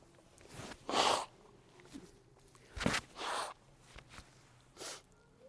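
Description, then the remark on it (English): Several short, breathy blasts of air through the nose as a person blows their nose, in quick bursts separated by brief pauses, with no talking. “Excuse me, I'm just going to blow my nose.”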